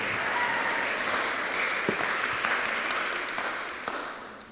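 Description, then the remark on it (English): Sustained applause from a crowd at a wedding service, for the couple being married, a dense steady wash of clapping that holds for a few seconds and then gradually fades, with no voices over it. “We give them a round of applause, right up.”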